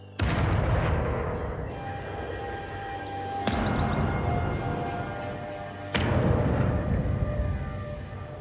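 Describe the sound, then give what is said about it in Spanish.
Three heavy cannon shots, fired as an alarm from the fortress in Buenos Aires on 24 June 1806, boom out a few seconds apart, each a loud, sharp blast trailing into a long rolling rumble that carries over into the next shot. “Buenos Aires amanecía con el sonido de tres cañonazos de alarma.”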